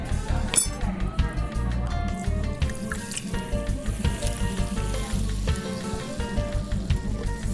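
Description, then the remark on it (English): A little splash of soda is poured into a glass over pebble or cracked ice packed on top of pressed mint leaves, giving a steady crackling fizz with scattered bright clinks of ice shifting, continuous and fairly loud for several seconds. “We just need a little splash of soda.”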